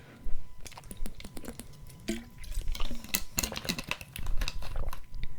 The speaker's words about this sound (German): Oh, ich trinke noch einen Schluck Wasser mit euch zusammen.